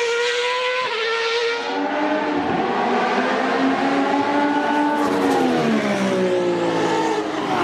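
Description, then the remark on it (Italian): Several racing cars with very powerful engines rev hard and accelerate away together at the start of a race, their engine notes rising and shifting in a loud, continuous roar that fills the scene with no talking. “Studio, sono partiti, incredibile che partenza.”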